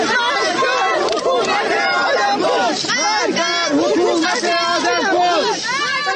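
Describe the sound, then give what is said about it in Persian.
A crowd of many voices shouts slogans together at the burial of poet Baktash Abtin at Imamzadeh Abdollah in Shahr-e Rey, in a loud, continuous roar, overlapping chants rising and falling with no pause throughout. “و این فریادها که می گویند شاعر در نگذشته، جان باخته.”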